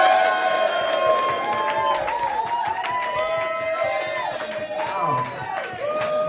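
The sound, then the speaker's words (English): A crowd applauds Mark Simmons, winner of best act of the year, steadily for several seconds, dense clapping mixed with loud cheers and high, rising whoops, the noise staying at a constant, full level throughout. “Applause for the best act of the year, Mark Simmons.”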